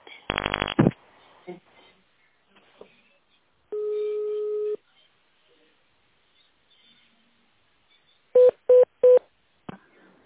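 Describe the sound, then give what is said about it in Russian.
Touch-tone telephone dialing on a call to the construction company Promstroyservice, with the phone switched to tone mode to choose a department: a quick burst of beeps, a sustained steady tone, then a few short, evenly spaced key tones in a row, loud against a mostly quiet background with no talking. “Для соединения с нужным вам отделом переведите телефон в тоновый режим.”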